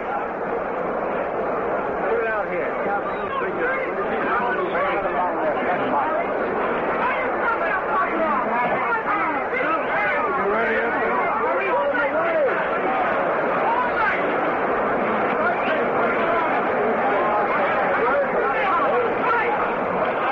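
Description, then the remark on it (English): A dense, steady hubbub of many overlapping voices, loud and continuous for the whole stretch, with no single speaker standing out from the crowd's chatter. “We queued you up to Bill Corum in a bit of a hurry, ladies and gentlemen, as there's quite a crowd in there.”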